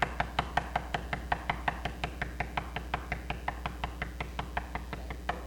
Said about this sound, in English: I know you're in there. I know you're in there. Come on out. I need it. My hand's hurting right now, but I ain't going to quit knocking. I'm not quitting. Keep on knocking.